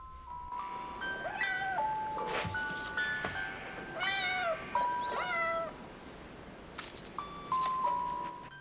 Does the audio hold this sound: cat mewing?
yes